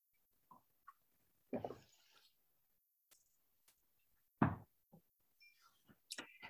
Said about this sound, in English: If you're holding a cup of water, you can really, really, really appreciate that you're helping this cup fulfill its purpose, and maybe this cup recognizes that. And it's slaking your thirst. So I'm going to have a sip so I can let it do its job.